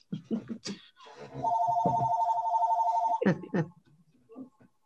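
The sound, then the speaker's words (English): A telephone rings with one sustained, warbling electronic trill lasting about two seconds, clear, with people talking just before and after it. “Can I get that phone, please?”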